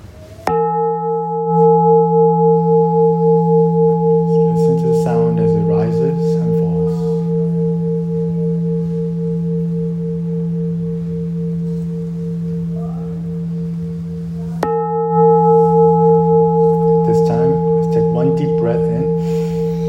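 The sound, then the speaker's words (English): A meditation bell is struck twice, about fifteen seconds apart, at the start of a breathing meditation. Each strike rings out in a deep, sustained, humming tone that lingers for a long time without fading much. “So we'll start with three bells and end with three bells.”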